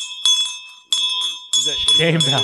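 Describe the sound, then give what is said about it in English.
A hand bell is rung three times in quick succession as a shame call, bright metallic tones lingering between strikes, with a voice joining over the final ring. “Did you bring that bell out just for this?”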